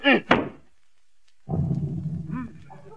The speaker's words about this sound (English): Didn't y'all say beat it? Oh, I meant the carpet. Yes, sir. Now, get your back into it this time.